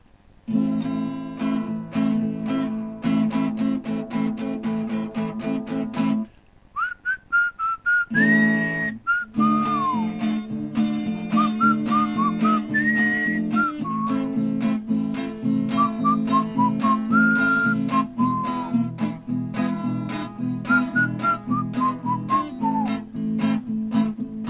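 A song plays: steady rhythmic accompaniment with a bass line under a high, pure whistling melody that glides between notes, briefly dropping out for a moment before resuming. No one speaks.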